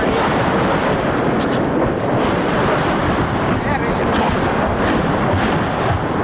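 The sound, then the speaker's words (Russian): Shelling in the town of Avdiivka rolls as a heavy, continuous rumble, with the booms blurring into one another beneath a loud, dense wash of wind-like noise. No single blast stands out clearly. “Это выстрелы. Вот это гремят бесы.”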